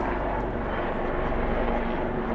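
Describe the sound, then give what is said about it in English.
A steady, loud helicopter rumble fills the scene, a dense low-pitched drone with a faint rhythmic chop as it passes overhead, continuous throughout. “No, it's a helicopter. I can see it.”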